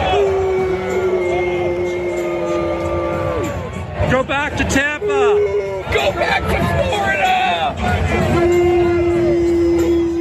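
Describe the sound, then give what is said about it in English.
A large baseball stadium crowd at the Rogers Centre in Toronto boos a Blue Jays relief pitcher on his first appearance from the bullpen, loudly in long, sustained waves, with individual voices shouting taunts through the middle stretch before the booing swells again, dense and continuous throughout. “here's the response from the crowd at the Rogers Center when Bass made his first appearance from the bullpen”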